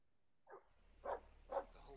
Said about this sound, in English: Whoa! Boom! Well, hi, doggy.